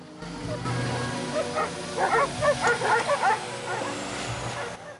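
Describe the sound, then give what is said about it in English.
Guard dogs bark at kennels by an airfield in a quick, overlapping cluster of sharp yaps that rises and fades over a couple of seconds, set against a steady low rumble in the background. “Davidoff parks up by some guard dog kennels and walks round to the back of the larder.”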